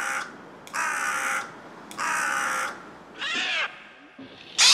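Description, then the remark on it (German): A common raven calls repeatedly, several harsh, hoarse croaks spaced about a second apart, loud against a quiet outdoor background, with a higher, rasping call at the end. “Der Kolkrabe sticht durch seine beeindruckende Größe unter den anderen Rabenvögeln hervor.”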